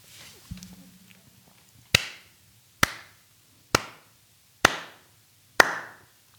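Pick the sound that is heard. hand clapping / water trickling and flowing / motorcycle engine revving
hand clapping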